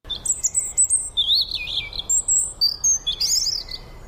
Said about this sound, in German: Denn heute geht es natürlich um das Rotkehlchen.